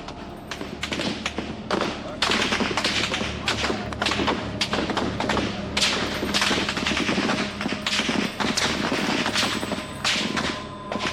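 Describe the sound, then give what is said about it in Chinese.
Repeated sharp gunshots from army troops firing on protesters in Beijing during the June Fourth events crack out in irregular bursts, some in quick succession, loud over a noisy background with voices shouting underneath. “北京城彻夜枪声不断，这就是震惊世界的六四事件。”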